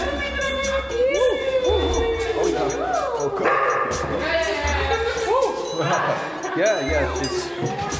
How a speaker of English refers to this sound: She bites very tenderly. My God. Yeah. Yeah. What kind of dog is that? This is Dingo. Dingo. The wild dog. Mixture of Dingo and Caucasian.